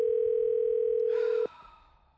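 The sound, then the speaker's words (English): A phone line rings on an outgoing call: one steady, loud electronic ringback tone holds for about a second and a half, then cuts off abruptly, leaving faint line noise. “I'll see if I can get him to answer the phone.”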